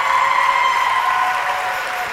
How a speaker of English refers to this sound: So give another round of applause for LHS Classic Bowl.